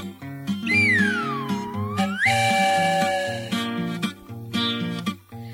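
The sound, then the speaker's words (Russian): A shrill steam whistle from a flying samovar-locomotive in a song glides down and then swoops back up, followed by a sustained high toot, all sounding loudly over a bouncy, upbeat musical accompaniment. “Он летит себе по небу и свистит, и чаек для Дуси с Васей кипятит.”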